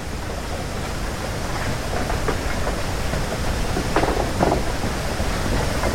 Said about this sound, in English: The sound comes to us from a mile down the Pipiwa Trail on Maui. The trail is surrounded by a deep bamboo forest. Plants are 100 feet tall, some as wide as 4 inches. And as the winds blow, the tops of the massive bamboo plants knock into each other.